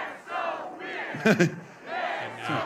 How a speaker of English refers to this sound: Now we're getting some chants from the crowd as the governor ensures that the attendee at the rally is getting some water and is attended to.